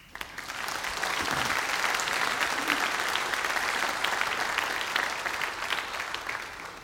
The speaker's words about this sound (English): Welcoming new people is hard for teens. You ought to applaud that.